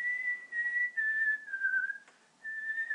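Someone whistles a steady, wavering tune, held notes sliding gently in pitch with a brief pause for breath near the end before carrying on, clear with no talking.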